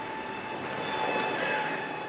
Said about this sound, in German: Tonale störende Geräuschkomponenten sind so etwas, das man sich landläufig als Pfeifen vorstellen kann, so Pfeifgeräusche.